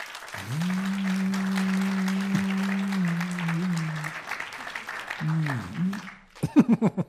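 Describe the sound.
An audience claps steadily for about six seconds, a dense even patter, with a long held low vocal tone riding over it; the clapping stops abruptly and a voice starts talking.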